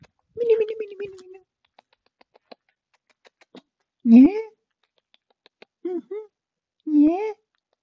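cat

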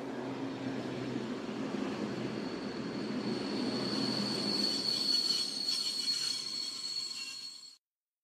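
train arriving at station

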